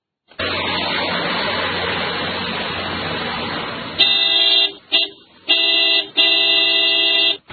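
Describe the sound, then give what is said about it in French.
Busy street traffic rumbles steadily for a few seconds at the intersection of Chaussée Mzee Kabila and Avenue Mamayemo in Lubumbashi, then car horns blare in a series of loud, sustained honks, three or four blasts with short gaps between them. “Nous sommes au croisement de la chaussée Mzee Kabila et l'avenue Mamayemo dans la commune de Lubumbashi.”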